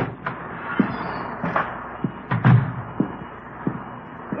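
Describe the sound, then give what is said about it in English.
The front door of a house at 4656 Collis Avenue in Los Angeles being opened: a scattered series of wooden clunks, rattles and thumps over a few seconds, with a heavier knock in the middle and no voices. “The front door.”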